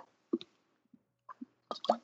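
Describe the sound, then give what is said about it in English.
Someone takes small sips of water: a few short, wet slurping bursts separated by quiet pauses, with no talking. “a little water. So a little ASMR action for y'all.”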